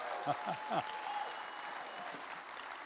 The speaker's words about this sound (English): Thank you, band. You guys are amazing. Give the band another big hand, would you? Guys, when we clap, we really clap. Amen. Give the band a big hand.